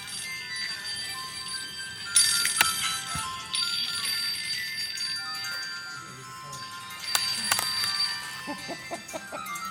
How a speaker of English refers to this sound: Everybody's cell phone is going off. It's our version of bells here.